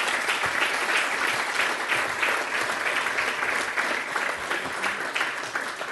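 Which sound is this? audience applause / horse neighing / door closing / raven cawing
audience applause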